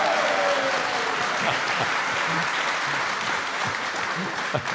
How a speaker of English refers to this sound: if I can jump in here for our radio audience, applaud if you voted in the primary. 10%.